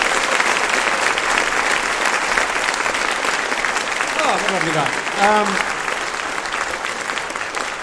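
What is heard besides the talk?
audience applause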